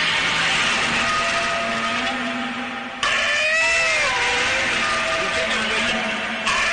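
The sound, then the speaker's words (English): Godzilla's roar: a loud, sustained monster roar with a harsh, grinding texture, breaking abruptly midway into a higher, wavering screech whose pitch bends up and down like a whine. “That's the end of his roar, you know.”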